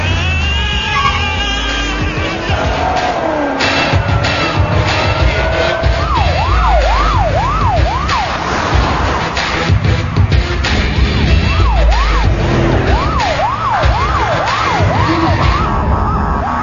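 An ambulance siren wails loudly, shifting into a fast rising-and-falling yelp that repeats in two long bursts over steady, rumbling street noise, with no one talking.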